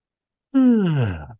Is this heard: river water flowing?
no